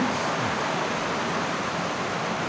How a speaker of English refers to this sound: So this is the first stream chamber. This is part of the River Tralagil that forms the larger river on the surface.